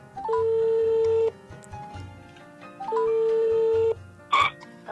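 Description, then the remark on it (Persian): A phone line rings out with two long, steady electronic ringback tones separated by a pause, as Radio Pelak in Ahvaz places an outgoing call for a telephone interview with the sister of martyr Ebrahim Hadi; a short burst of noise follows near the end, with no talking. “امروز مصاحبه تلفنی رو ترتیب دادیم با خواهر محترم شهید ابراهیم هادی.”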